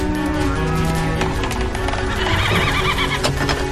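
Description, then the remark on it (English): Horses neigh and whinny loudly amid a steady clatter of hooves clip-clopping in a burning barn, with a dense, continuous background of noise throughout. “Open the doors wide, then grab Daisy. I'll get the horses.”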